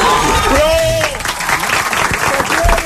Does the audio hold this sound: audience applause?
yes